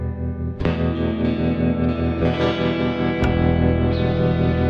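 A heavily distorted electric guitar rings out in sustained, buzzing chords, with a sharp new strum partway through and a louder one near the end, thick with effects and echo.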